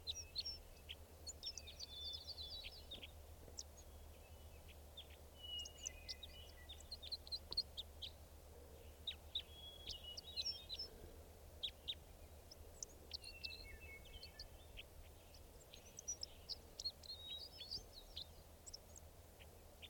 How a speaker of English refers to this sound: There it is. Wild bird calls. There it goes.